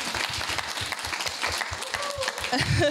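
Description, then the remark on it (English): A crowd claps steadily for a freshman class president in a dense, sustained round of applause, with some cheering and voices mixed in toward the end. “Well, first, I think that they owe you another round of applause because you're a freshman class president.”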